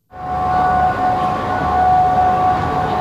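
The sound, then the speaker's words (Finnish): Sirens sound continuously at night in Baghdad, Iraq, during an Iranian rocket attack on the Green Zone where US troops are based, holding steady, overlapping tones for the full few seconds over a loud wash of background noise. No one speaks. “Sireenit soivat Bagdadin yössä, mutta videokuvien perusteella mitään isoa ei tapahdu.”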